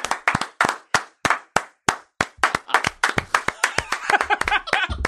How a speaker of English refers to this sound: Clapping in Vegas. God, I'm writing it down. Clapping in Vegas. Clapping with our hands.